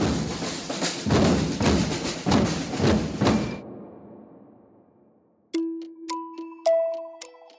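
A clock ticks in a steady, fairly loud rhythm against a noisy background, then stops; a few seconds later several bright, ringing chime notes sound one after another.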